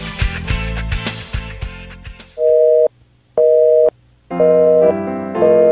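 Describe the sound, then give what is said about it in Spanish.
A telephone busy signal, heard when calling at midnight on Christmas night, beeps in a steady on-off rhythm, about three repeating tones, after a brief burst of busy, cluttered music-like sound at the start. “El teléfono anda ocupado.”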